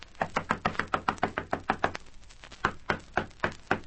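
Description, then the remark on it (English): Repeated firm knocking on the wooden door of Napoleon Morgan's house in the Kingston slums, a rapid run of about fifteen raps, a short pause, then several more insistent knocks, loud with no voices. “Nobody's very keen on answering the door.”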